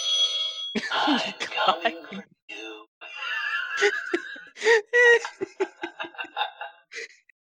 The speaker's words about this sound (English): No, what it's really the fault of is I just haven't answered my phone that's been ringing this whole time.